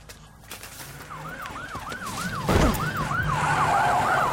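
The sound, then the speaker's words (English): A police car siren yelps in quick, repeating rising sweeps, steady over a rumble of traffic, with a brief loud burst of noise partway through. “And there's popo everywhere.”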